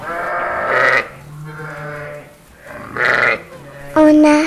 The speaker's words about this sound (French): Mon papa, il a des brebis. Je vous ai dit que les brebis, elles reconnaissaient l'agneau par... L'odeur, ok.